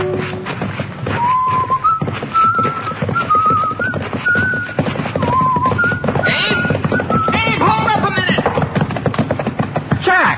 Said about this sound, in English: Well, you're leading my horse, carrying my surveying instruments?